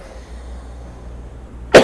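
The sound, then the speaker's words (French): A single sharp cough bursts out near the end after a stretch of quiet, fairly loud, with no talking around it. “Moi, par exemple, pour comme je tousse, il faudrait que j'aille voir quelqu'un qui veuille bien m'écouter, par exemple.”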